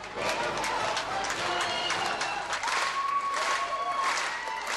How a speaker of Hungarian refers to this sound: Az Operettszínház közönsége pedig állva tapsolt a 60 éves színésznőnek.